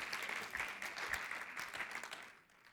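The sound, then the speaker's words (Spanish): An audience applauds the King of Kings before the Holy Communion (Santa Cena): a dense wash of many hands clapping steadily at an even, moderate level for a few seconds before it begins to taper off near the end. “Vamos a darle un aplauso al Rey de Reyes porque viene la Santa Cena.”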